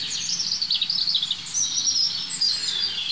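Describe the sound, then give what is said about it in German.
A European robin sings a continuous, warbling run of high, thin notes with quick trills and slides, steady, with no voices present. “Und dazu ist das einfach ein super spannender Vogel, das Rotkehlchen.”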